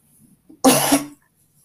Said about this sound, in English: Trying to be emotional, my cough is like, nope.